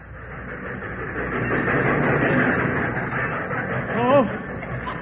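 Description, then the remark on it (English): A train rolls into a depot with a steady, heavy rumble and hiss that swells and holds, a crowd of waiting people murmuring indistinctly beneath it, and a short rising tone near the end. “But I'll never forget that day waiting down at the depot. There was a flock of us there. And as the train pulled in”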